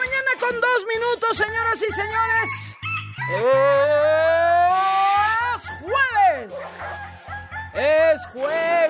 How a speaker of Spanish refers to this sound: Sabe y el gallo lo sabe, por supuesto que también, así que ahí va este gallo que dice: yo ya estoy de vacaciones, a mí no me pueden decir nada, yo ya estoy de vacaciones, voy feliz.